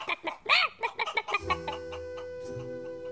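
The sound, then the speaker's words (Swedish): A hen clucks in a quick run of short, fairly loud bursts for about a second and a half, then fades into a steady sustained musical tone. “Och det såg ganska så roligt ut när den lilla hönan satt på det stora, gröna ägget.”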